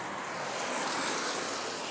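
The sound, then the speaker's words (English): Rain patters steadily on a nearly waterproof jacket worn while walking a dog in the rain after dark, a dense, even spatter of tiny taps blurring into a bright hiss that holds constant for the whole stretch, with no voices. “You might be able to hear the pitter-patter of rain on a nearly waterproof jacket.”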